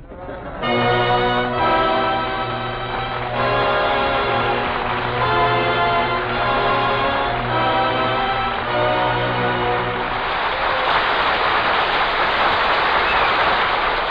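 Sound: studio audience applause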